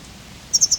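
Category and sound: bird, wild bird calls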